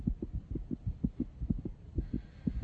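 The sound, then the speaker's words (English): Two heartbeats on an ultrasound monitor: the mother's strong, slower heartbeat and her baby's heartbeat. Rapid, regular whooshing thumps pulse steadily over a low electronic hum, muffled, with no one speaking. “We're gonna hear two heartbeats now.”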